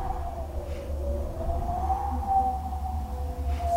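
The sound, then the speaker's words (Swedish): A hand-cranked theatre wind machine, a wheel about 1 metre across with wooden paddles scraping against a burlap cloth laid over it, produces a steady, moaning howl whose pitch swells and rises slightly over a low rumbling drone, sustained for the full few seconds with no voices. “Och ju snabbare man vevar runt, desto mer intensiv blir vinden.”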